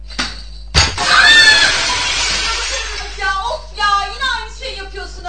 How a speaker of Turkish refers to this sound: Eyvah. Cam kırıldı.